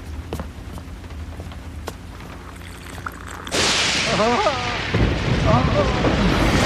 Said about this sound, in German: Das Licht flackert. Ein Blitz hat die Leitungen erwischt.